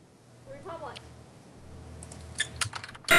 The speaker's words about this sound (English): Oh, he's looking it up. We can hear you typing.